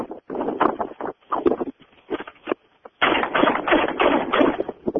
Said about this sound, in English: A500 semi-automatic shotgun with 5 inches. Just, Rick, go ahead and shoot everything.